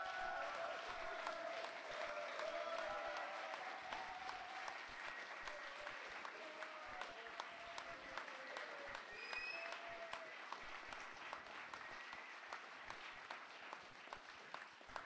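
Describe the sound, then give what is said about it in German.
An audience applauds as loudly as possible to vote for a candidate for the main audience award of 2007, many hands clapping steadily for about fifteen seconds in a dense, even wash of sharp claps that holds a fairly constant loudness throughout. “Bitte Applaus jetzt!”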